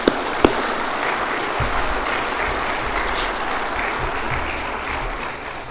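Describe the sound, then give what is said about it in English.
A crowd at a meeting applauds the organization's staff. It is a steady, dense wash of many hands clapping at an even level for several seconds, with one or two sharper claps standing out at the start. “I hope you'll join me in showing your round of applause for all of our staff.”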